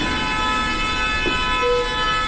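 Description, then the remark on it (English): Busy road traffic in Yangon, Myanmar, with horns honking, sustained, overlapping horn tones blaring throughout over a low vehicle rumble, loud, with no one talking. “Myanmar can be a loud place.”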